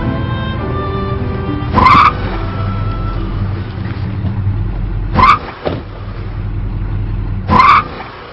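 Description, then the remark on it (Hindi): A car engine drones steadily, broken three times by loud, harsh skidding screeches as the broken-down car struggles and jerks to a halt. No voices. “गाड़ी खराब हो गया, वक्त लगेगा, मैं जाके किसी मैकेनिक को लेकर आता हूँ।”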